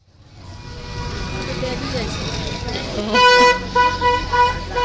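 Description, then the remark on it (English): Busy street traffic in Kathmandu, recorded while walking along the road from one of the palaces, with the rumbling engines of many motorbikes throughout and loud horns honking repeatedly in the second half, overlapping. Voices murmur faintly beneath the din. “This is a typical street in Kathmandu. There's millions of motorbikes and the traffic is just manic.”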